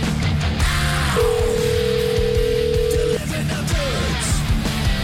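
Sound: telephone number being dialed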